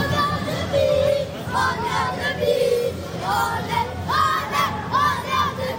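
About 1000 FC Annecy football supporters at the Vélodrome cheer and chant loudly as a crowd at the final whistle, voices rising in sustained, overlapping shouts of joy with a steady roar beneath, no single voice standing out.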